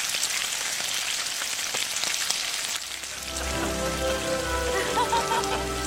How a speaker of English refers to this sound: If a Foley artist wants to recreate the sound of rain without getting their hands wet, They can achieve a similar effect with a frying pan,